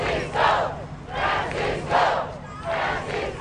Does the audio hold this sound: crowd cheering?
yes